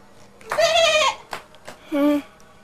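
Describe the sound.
A person imitates a goat with a long, wavering bleat, followed by a shorter second bleat after a brief pause, both fairly loud.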